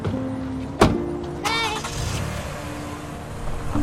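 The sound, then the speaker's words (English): A car idles steadily as a sharp thunk sounds, followed by the brief rising whir of an electric window rolling down, the engine rumbling on underneath. “Addie and Lewis watch them pack up and climb in the car.”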